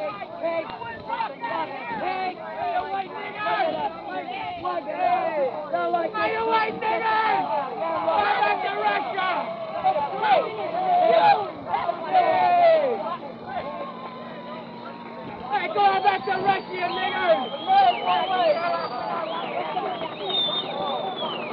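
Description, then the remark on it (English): A group of young boys on a street by a veterans' parade and concert grounds yell at people stopped in their cars, shouting over one another nonstop, their high, rising and falling voices overlapping in a loud, chaotic jumble above a steady low engine-like hum. “There's a group of young boys here yelling at the people stopped in their cars.”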